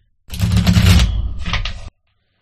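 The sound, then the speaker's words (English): A 78-card Magic Gate Tarot deck with glossed, premium cards shuffled: a quick, dense burst of papery flutter and rapid clicking lasting under two seconds, with a brief pause midway before a shorter second riffle. “They're glossed, and you can actually just split the deck down the middle because of the weight of the paper, and they're flexible enough to actually shuffle the entire deck”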